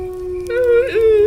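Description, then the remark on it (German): A wolf howl: one long, steady, wavering tone, fairly loud, swelling midway with a brief dip in pitch before sustaining again, with no voices. “Och, Alter, wie oft macht er jetzt den Wolf-Sound denn noch?”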